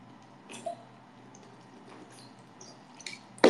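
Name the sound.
drinking water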